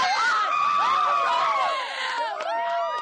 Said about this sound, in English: the energy of the young men cheering for Brazil inspired a group of young women from Quincy, Massachusetts, wearing high school soccer jackets to join the chanting